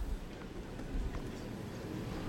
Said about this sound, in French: Toujours ce vent, vous l'entendez normalement.